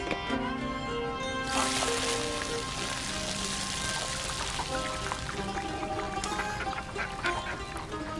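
rain falling on surfaces

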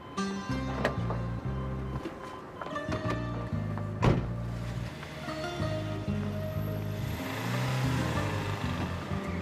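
car

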